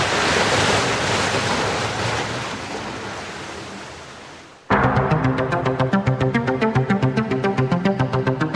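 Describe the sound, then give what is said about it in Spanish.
Loud, steady roar of ocean waves crashing and washing over the rocks below the Muelle de las Almas pier on Isla Grande de Chiloé for several seconds, fading slightly before cutting abruptly to rhythmic, pulsing music. “Mientras, las olas siguen castigando incesantes los roqueríos bajo el muelle de las almas.”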